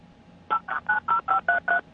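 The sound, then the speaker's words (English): A quick run of seven telephone keypad dialing tones, evenly spaced beeps pressed one after another, clear with no talking. “Yeah, well, hello? I'm on the phone.”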